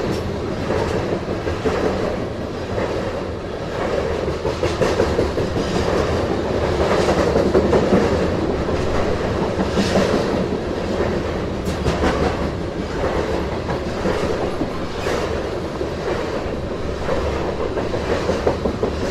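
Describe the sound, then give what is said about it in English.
A long freight train of well over 100 rail cars rolls steadily past, a continuous loud rumble with rhythmic clickety-clack from the wheels over the track joints and occasional metallic squeals. “Okay, I think I might see the end of the train in the distance.”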